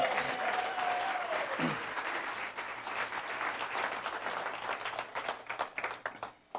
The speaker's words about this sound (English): Thank you. Everybody give you a round of applause.